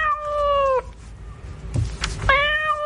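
A cat on the tube meows loudly twice, each a drawn-out, wavering cry, with a brief noisy scuffle or breathy sound between them and no talking.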